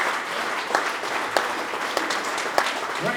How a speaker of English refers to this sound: Please warm applause to the organizers and the sound man. I love it. Thank you, guys.